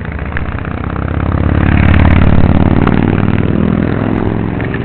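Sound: motorcycle engine revving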